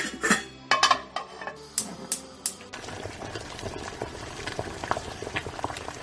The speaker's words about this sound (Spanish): Son las cocinas. Empiezan a funcionar a pleno rendimiento, adelantando platos para poder componer uno de los menús más especiales del año.